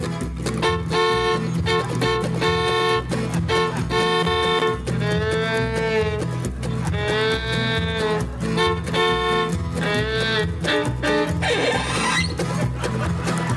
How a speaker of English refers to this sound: And he's blowing his horn trying to get the cow off the track.